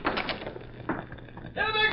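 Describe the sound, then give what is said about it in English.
A door opens with a few dull knocks and scrapes, then a brief rising creak near the end; a faint voice may be mixed in. “Open the door, Jim.”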